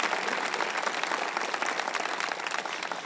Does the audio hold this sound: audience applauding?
yes